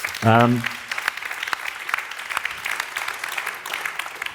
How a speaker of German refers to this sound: Na, ich glaube, das ist auch ein Applaus wert.